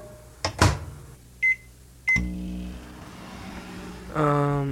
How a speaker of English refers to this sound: Pop it in the microwave here.